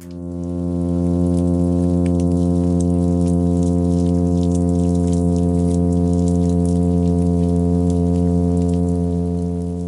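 A male midshipman fish's advertisement call, broadcast from his nest in the intertidal zone on a summer's evening: one continuous low, buzzing drone with rich harmonics, holding steady in pitch and loudness for the whole clip, with faint crackling and popping noises scattered above it.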